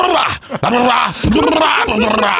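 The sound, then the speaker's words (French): A person loudly imitates an angry, agitated dog, as in a Bill Burr comedy special, letting out harsh growling and snarling vocal bursts with rising and falling pitch, almost continuous, with a brief break near the start. “un spécial de Bill Burr, mon humoriste américain préféré, qui à un moment donné, il met son chien qui pogne les nerfs, tu sais, puis là.”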